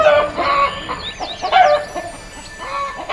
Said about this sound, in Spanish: Una gallina pasa por entre el grupo, perseguida por un gallo.